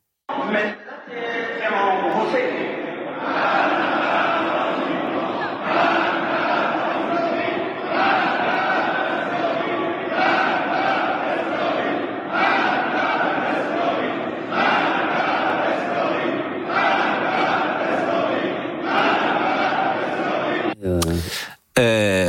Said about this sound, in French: c'est le Parlement iranien tous les députés sont là, ça montre l'état du pays, qui crie mort à Israël. Écoutez cette séquence.